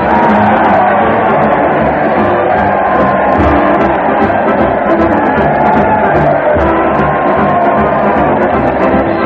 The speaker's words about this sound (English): Listen to that crowd. They're cheering in the streets as Fred Allen leads his weekly parade to the old town hall.